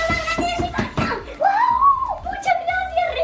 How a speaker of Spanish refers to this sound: Bueno, este es el sonido protagonista del día, el de los pequeños rasgando el papel de los regalos y los gritos de emoción al comprobar que los Reyes Magos les han traído todo lo que han pedido.